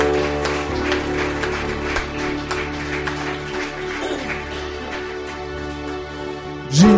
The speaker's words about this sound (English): Go ahead and give the Lord a cheer. It's all right. It's all right.